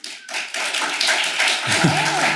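Applause from a group of people at the mention of climate change, a dense crackle of many hands clapping at once, steady and fairly loud for a couple of seconds, with a faint voice-like tone rising underneath near the end.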